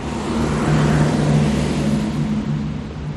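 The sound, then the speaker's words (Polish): Busy traffic on a main thoroughfare just outside a church rumbles steadily, a dense wash of engine noise with a low droning hum from passing cars, loud and continuous throughout, with no voices. “Teraz słychać, prawda, mocną ulicę, tylko się wyjdzie z kościoła.”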